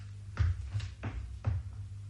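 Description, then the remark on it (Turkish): A door is opened for an arriving guest, with four soft clunks and latch-like clicks spaced unevenly over about two seconds, against a low background rumble and no voices. “Ben kapıyı açarım.”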